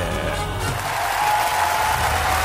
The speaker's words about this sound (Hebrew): האיש והגדה! הוא הגיע אלינו! וואו! קבלו אותו ממחיאות כפיים!